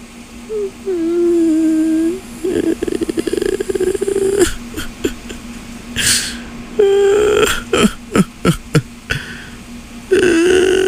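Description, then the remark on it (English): A voice imitates the cartoon girl Tina Belcher crying: low, drawn-out moaning wails alternate with choppy, stuttering sobs and sharp gasping bursts, performed alone with no other talk. “That was my impression of Tina Belcher crying.”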